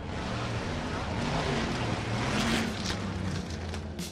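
race car engines starting

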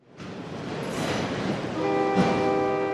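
train on railroad tracks

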